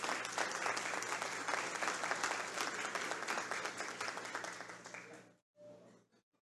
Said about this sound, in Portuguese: Também pedimos mais uma vez uma salva de palmas.